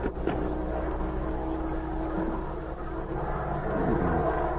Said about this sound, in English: Then, from the distance, came the hum of an airplane motor.